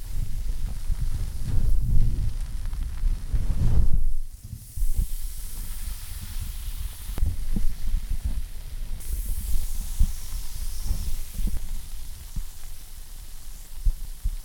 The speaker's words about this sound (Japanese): ね？頭シュワシュワして、ソーダの中に放り込まれたみたいでしょ？